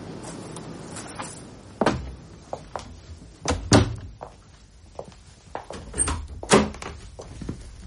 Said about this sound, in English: I must shut the door or freeze to death.